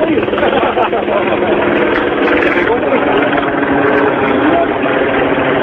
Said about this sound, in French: Bon, bah écoute, l'hélico qui revient. Je sais pas ce qu'ils font là-haut, qui nous filment.